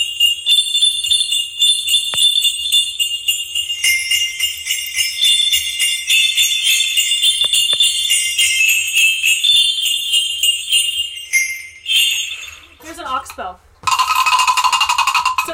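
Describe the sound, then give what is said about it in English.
Tuned sleigh bells, each with a little metal ball inside striking the metal, jingle continuously and brightly for several seconds, a dense shimmering cascade of metallic tones, then settle briefly before a final loud burst of shaking. “Here's some more sleigh bells, but these ones are tuned.”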